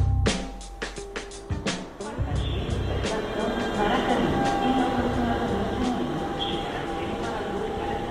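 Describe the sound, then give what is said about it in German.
A busy underground metro station ambience in Rio de Janeiro, Brazil: a train rumbles and screeches with sharp metallic clacks and hiss, while indistinct voices murmur in the background throughout. “Die junge Frau aus dem Kongo ist spät dran, hastet die U-Bahn-Treppe hinauf.”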